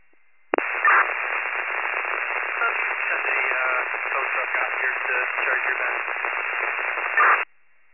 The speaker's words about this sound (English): The radio transmission was all static. Can you go again, please?